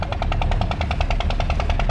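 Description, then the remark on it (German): A motor-driven water pump by the fields along the Nile rattles in a fast, steady chugging rhythm, about nine beats per second, loud and unbroken over a low engine rumble, heard from the cruise boat Semiramis 3 travelling upriver; no voices. “Hin und wieder hört man auch das Knattern der Wasserpumpen.”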